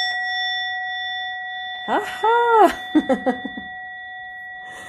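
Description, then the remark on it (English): A meditation bell's steady, sustained ring hums through the whole recording, while a voice exclaims and gives a few short laugh-like bursts over it. “Let's go ahead and do the bell practice that I tried to do at the beginning.”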